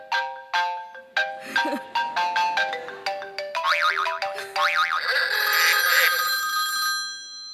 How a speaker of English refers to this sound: Yes, an alarm clock symphony.